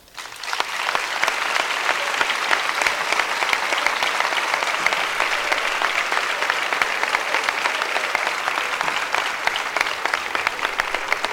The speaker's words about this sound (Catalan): És per aquest motiu que demano un fort aplaudiment per tots ells.